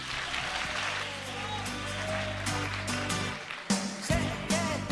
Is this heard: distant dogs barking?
no